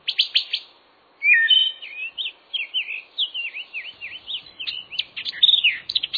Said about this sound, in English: It's just after dawn in the piney woods of Georgia. Suddenly, from out of a hole 40 feet up in a large pine tree, pop four black and white birds. A family of red-cockaded woodpeckers is leaving their night roost.